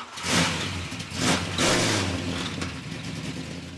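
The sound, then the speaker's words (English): A loud 1962 Pontiac with a 421 lightweight V8 engine of about 550 horsepower roars and accelerates at a car show in a town square on a hot evening, its growl rising in pitch through a couple of surging bursts before settling into a steady rumble as it pulls away. “Get up and go is what Mike Enman did with the Pontiac.”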